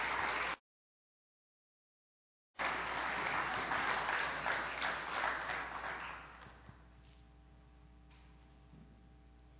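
A church audience breaks into warm applause welcoming a man as he comes up to share his testimony, dense clapping that swells, holds steady for several seconds, then thins and fades away, leaving a faint, quiet hum.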